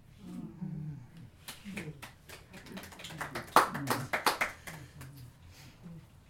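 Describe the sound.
Light, scattered clapping from a small audience, a few hands patting unevenly and swelling briefly in the middle, while voices murmur and talk underneath.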